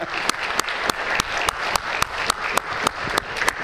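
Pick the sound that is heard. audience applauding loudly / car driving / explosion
audience applauding loudly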